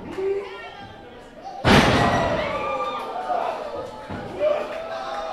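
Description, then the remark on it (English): A loud, heavy body slam in a tag-team wrestling match lands with a single booming thud partway through, surrounded by a noisy, excited crowd and overlapping voices. “We have body slams going on everywhere.”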